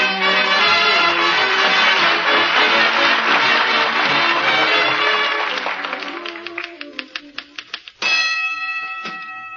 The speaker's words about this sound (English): Awful loud bell on that typewriter, dearie. Yeah. It used to belong to a sports writer. He used it at a prize fight.